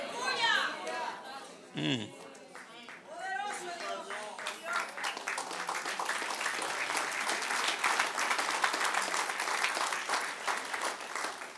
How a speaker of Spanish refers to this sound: Dale otro aplauso al que reina.